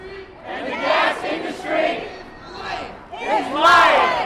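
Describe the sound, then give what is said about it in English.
About 150 anti-fracking activists, rallying outside an auditorium before hearings on the Cuomo administration's plans to regulate hydraulic fracturing, chant an Occupy Wall Street-style mic check in unison, loud rhythmic shouted phrases rising and falling in bursts, with a final, louder call near the end. “Before the hearings had even begun, about 150 anti-fracking activists rallied outside the auditorium, doing the so-called mic check, inspired by the Occupy Wall Street movement.”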